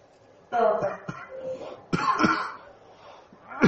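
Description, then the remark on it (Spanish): A patient coughs several times during a medical exam, in short, harsh bursts spaced irregularly, with some throat clearing and rough vocal sounds between them and a final cough at the end. “¿Y sigue con la tos?”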